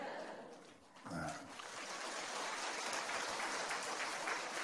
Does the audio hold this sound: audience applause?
yes